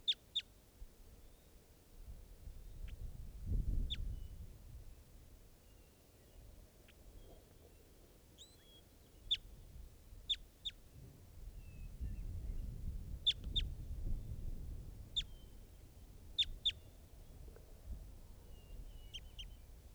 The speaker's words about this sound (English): And this is an adult male type 2. Nothing. That's it. That's the bird.